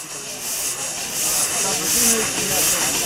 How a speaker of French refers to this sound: Donc, moi, je suis chauffeur de machines à vapeur. Donc une machine à vapeur, là c'est un tracteur à vapeur ou une locomotive à vapeur, ça marche exactement la même chose.